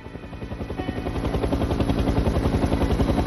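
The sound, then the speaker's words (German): A helicopter flies by, its rotor blades producing a fast, steady thumping chop over a loud engine roar that stays constant throughout, with no voices. “Das Sicherheitssystem ließ ihren Helikopter durch.”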